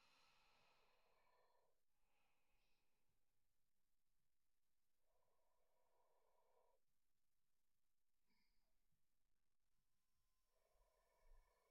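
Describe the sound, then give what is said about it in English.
Slow, deep breaths drawn in and let out in long, even cycles, fairly soft, with a brief sharper exhale near the end and no talking. “Very good. You're breathing deeply.”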